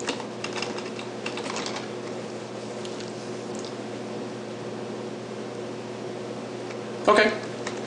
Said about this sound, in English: Okay, it might be auto, it might be trying to like make it quieter because I am typing. Warn me again if that appears to happen, okay?